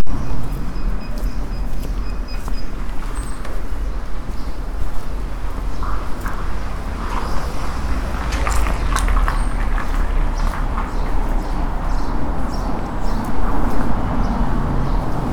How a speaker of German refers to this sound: Und ich halte mal kurz das Mikro hoch. Ihr hört Vögel.